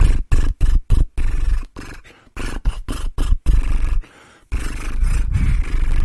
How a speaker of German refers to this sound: Das hat den gleichen Effekt, ist aber noch ein bisschen lustiger vielleicht. Das Lippenflattern.